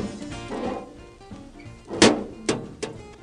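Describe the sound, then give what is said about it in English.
The small hinged metal door of an old blue outdoor mailbox creaks open, then clanks shut in three sharp metallic thunks, the first the loudest, with a faint rattle in between and no talking. “it was an outdoor mailbox, the old mail slot. And here it is again for that blue mailbox, that hinge door that you open.”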